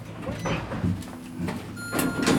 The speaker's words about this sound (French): Ouverture des portes. Deuxième étage.